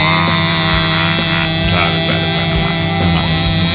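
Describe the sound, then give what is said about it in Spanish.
A loud, unbroken drone of many vuvuzela horns blaring together, a steady buzzing wall of sound, with faint crowd noise beneath it. “la vuvuzela no era como la corneta esa utilizada en muchos estadios”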